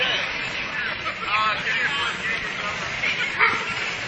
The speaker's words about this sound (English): Oh, someone's dog's not happy. Oh. It says, get those off me, damn it.